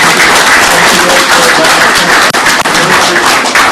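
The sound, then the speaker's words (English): An audience breaks into sustained, loud applause for their president at the end of an evening meeting, a dense wash of many hands clapping steadily for the whole stretch with no voices standing out. “So let's hear it for our president.”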